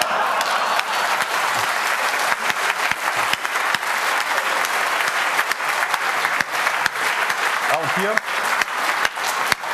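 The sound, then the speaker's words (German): Sustained audience applause, a dense wash of many hands clapping at steady loudness throughout, with a brief voice surfacing near the end. “Hier wurde jetzt gerade, als ihr geklatscht habt, das Passwort gedisabled, gespeichert und neu gestartet”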